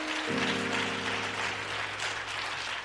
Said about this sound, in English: Clap your hands to Him as you're seated.